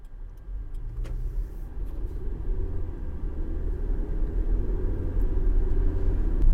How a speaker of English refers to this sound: Okay, now I'm doing something which really I shouldn't be doing. I'm driving and I'm talking to you at the same time.